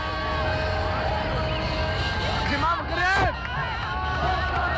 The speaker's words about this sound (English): Moroccan TV showed residents of the capital Rabat applauding and cars honking in the streets after the announcement of preliminary election results.